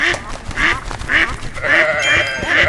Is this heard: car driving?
no